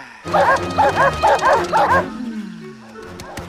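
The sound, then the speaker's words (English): Three dogs bark and snarl loudly in a rapid run of about five harsh bursts as they run across rocky terrain chasing a large, colorful bird, then the noise drops away to a low, rumbling quiet. “Fade up as three dogs with vicious snarls run across rocky terrain.”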